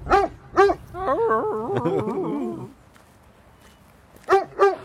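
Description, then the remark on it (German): A dog gives two sharp barks, then a run of high, wavering whimpers and whines, falls quiet, and ends with two more loud barks. “Hund sieht man auch.”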